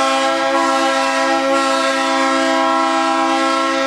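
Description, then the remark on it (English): A loud, steady train whistle blows continuously for several seconds, a sustained multi-tone blast with no talking over it. “No, I'm not going to compete with that whistle.”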